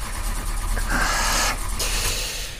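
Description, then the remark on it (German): A car engine, damaged in an accident, cranks with a grinding, whirring churn that rises in a couple of surges but never catches and starts, with no talking. “Durch den Unfall ist wohl der Motor kaputt gegangen.”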